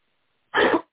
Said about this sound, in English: So if you hear me coughing like that, y'all know why. So I'm apologizing now.